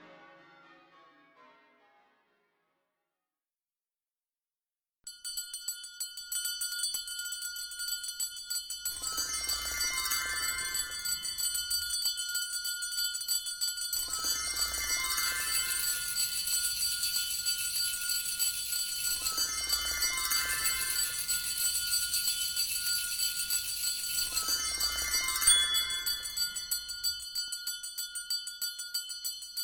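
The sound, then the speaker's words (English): A bicycle bell on an ice cream green bike rings bright, struck in repeated bursts every few seconds, its metallic shimmer lingering between rings after a brief quiet start. “My bicycle bell came with my bike, which is an ice cream green.”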